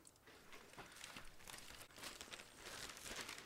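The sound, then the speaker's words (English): Dry, papery rustling and crinkling fills the whole stretch as newspaper pages are handled and shaken, with soft irregular crackles and no voices. “Can I take a look at your paper?”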